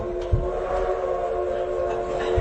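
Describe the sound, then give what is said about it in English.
A passing train fills the scene with a steady rumbling roar and a sustained tonal drone, broken by a couple of low thuds, continuous, with no talking. “The train is right on schedule.”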